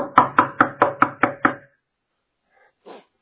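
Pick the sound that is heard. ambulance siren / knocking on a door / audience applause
knocking on a door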